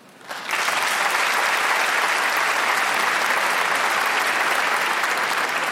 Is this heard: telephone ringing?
no